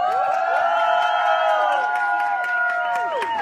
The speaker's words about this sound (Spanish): Esta es la primera vez. Están aplaudiendo. Que me aplauden. Por no haber hecho nada.